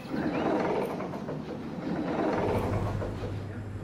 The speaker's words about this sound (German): Brunnaderstrasse führt durch das ruhige Enelfenau-Quartier. Vorbei an Einfamilienhäusern, Botschaften und gepflegten Vorgärten. Zwischendurch fährt ein Auto vorbei.